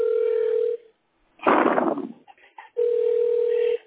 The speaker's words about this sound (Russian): Да, звонок. Слышите, да? Да. Вот этого не было.